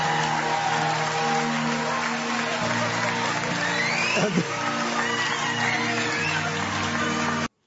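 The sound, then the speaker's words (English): Sustained audience applause, a dense wash of clapping with cheering voices mixed in, holding steady and loud for several seconds before stopping abruptly. “Man, I haven't heard applause like that for toes since the FetLife convention.”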